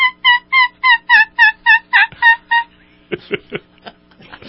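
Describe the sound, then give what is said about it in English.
A person imitates a turkey gobble: a rapid run of about ten warbling, harmonic yelps, followed by a few sharper, broken clucks and rattles, loud and with no talking. “Do the turkey for me.”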